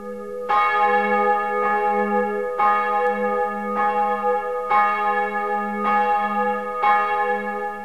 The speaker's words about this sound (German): Während sich die Glocke Hanna, die wir gerade gehört haben, und die Glocke David hier im Turm C befinden, hängt die Glocke Josua im anderen Glockenturm über dem Eingang E und ist gleichzeitig auch die Trauglocke.